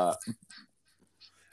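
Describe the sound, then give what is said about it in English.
A guinea hen lets out a loud, harsh, honking call right at the start, then a few fainter, scratchy bird sounds trail off in the background. “I'm sorry if people hear my guinea hen. I have a lone guinea hen now.”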